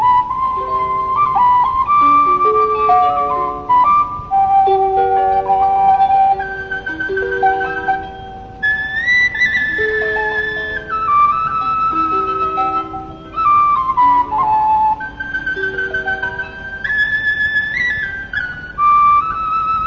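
A slow, plaintive Irish traditional instrumental melody led by a high, breathy whistle, with sustained ornamented notes over a soft accompaniment, playing steadily and fairly loud with no voices.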